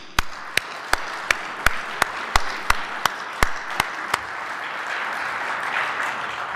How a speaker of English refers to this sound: We got one Gary introducing another Gary, but the first thing we have to do is give Gary Timm a round of applause.